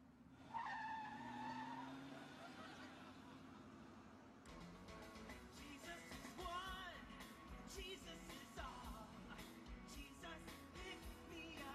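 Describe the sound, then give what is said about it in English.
A car in a clip from Seinfeld peels out with a loud, sustained tire squeal, then the engine roars as it speeds away, harsh. “Don't peel out.”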